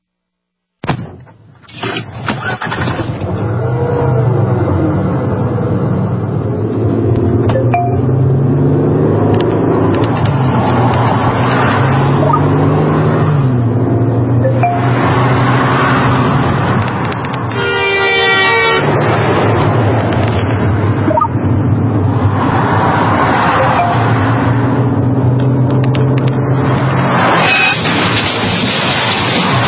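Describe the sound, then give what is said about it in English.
A car drives along the road with a steady, loud rumble of engine and tire noise, broken midway by a short blast of a car horn, as its driver takes their eyes off the road; no one speaks. “These are the sounds of someone taking their eyes off the road.”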